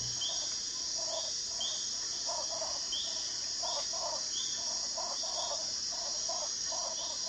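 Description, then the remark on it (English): A Panamanian tree frog calling in repeated short, chirping bursts at a steady rhythm, set against a constant high buzzing night chorus; no one speaks. “The Panamanian tree frog.”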